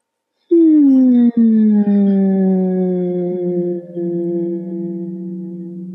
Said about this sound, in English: And just from a gentle place of allowance, I invite us all to take a deep breath in and relax on a gentle hum.